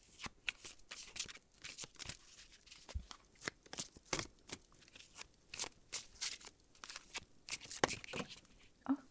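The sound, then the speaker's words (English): A newly opened deck of cards being shuffled gently, a steady series of quick papery riffles and soft snaps with short pauses between them, fairly quiet and with no one talking. “Okay, shuffling. I'll try to do it gently for you.”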